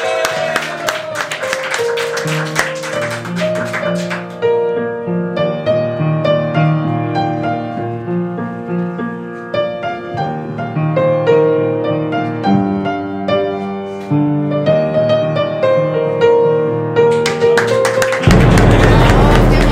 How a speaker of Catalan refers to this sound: Fort aplaudiment per ell i per la Neus.